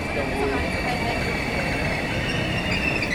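A train rolls steadily into a platform at Berlin Hauptbahnhof, Germany, its wheels letting out a sustained high-pitched squeal over a dense, continuous rumble that stays loud throughout.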